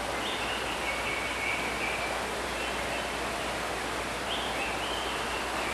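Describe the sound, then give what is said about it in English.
A waterfall alongside a river in a mountain habitat at Jungle World gives a steady, unbroken hiss of rushing water, with a couple of faint high tones like bird calls drifting over it. “And we're right alongside a river with a waterfall right there at the end.”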